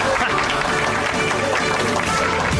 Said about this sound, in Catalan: Un altre aplaudiment per vosaltres, perquè no valeix.